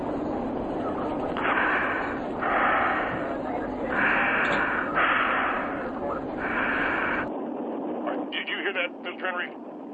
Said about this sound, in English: I heard breathing. That is the woman that in question. She's called my home on two different occasions.